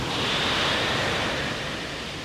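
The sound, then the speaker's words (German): A rocket lifting off: a loud, steady rushing hiss with a low roar beneath it, holding constant for about two seconds with no voices. “Es gab ein gewaltiges Zischen. Dann donnerte es und die blauen Sternenkinder schwankten, als die Rakete in einer riesigen Rauchwolke verschwand.”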